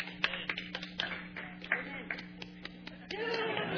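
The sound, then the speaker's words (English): Scattered applause from a church audience, with sharp irregular claps popping out over a steady low hum and faint murmuring voices, thinning out toward the end. “For you that clapped, you have a bigger mansion in heaven.”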